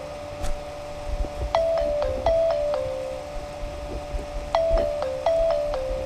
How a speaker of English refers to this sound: You guys like my ringtone?